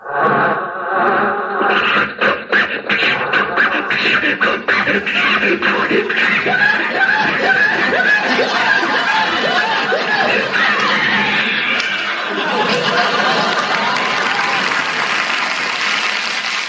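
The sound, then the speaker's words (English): Mel Blanc's voice sputters, coughs and chugs in irregular bursts, imitating the wheezing engine of Jack's old Maxwell car on The Jack Benny Program from 1950, while an audience laughs and applauds loudly over it, the laughter swelling toward the end. “There's Mel Blanc there doing the vocal sounds of Jack's Maxwell engine on his car.”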